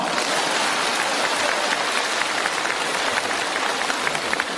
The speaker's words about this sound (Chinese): 鼓掌。